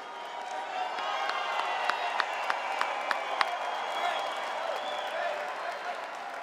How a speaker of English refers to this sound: If we missed your country, we can stand up and cheer now if we missed you.